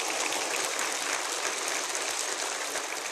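A church audience applauds steadily at the end of an evening teaching, a dense crackle of many hands clapping at once that holds at an even level from start to finish, with no voices breaking through.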